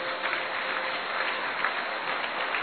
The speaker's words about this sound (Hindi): देखिए विश्व महाराजन बैंड वाले अपना हॉल में बैंड बजाना आरंभ करेंगे और दादी जी पहुंच चुकी हैं और सभी करतल ध्वनि से ताली बजाते रहेंगे।